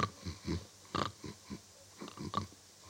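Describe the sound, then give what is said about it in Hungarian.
Several people fake snoring as shepherds lying down to sleep in a nativity play, producing a string of rasping snorts and wheezy breaths in an uneven rhythm, some overlapping, with no other talk. “Na, ne horkolj már, mert fölébred a kis Jézuska.”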